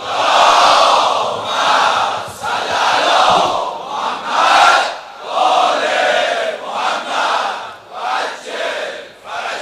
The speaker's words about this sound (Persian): نثار امیر المومنین و بچه های امیر المومنین جهت تعجیل در فرج آقامون، همه جلسه صلوات حیدری بفرستن.